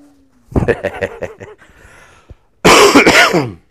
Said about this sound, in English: I coughed into my hand.